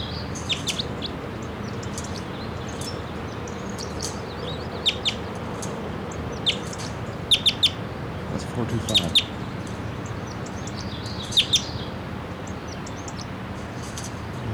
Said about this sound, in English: Little song phrases there about wild man, lone man, it's only about 20 feet up. Stop. They're coming down, a number of crossbills are coming down. I'm not sure the number of them, but there's a female and a male.